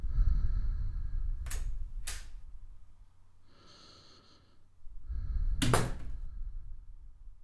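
A door is handled and opened: a couple of sharp latch clicks, a muffled shuffle, then a louder clack, all over a low, steady rumble with no talking.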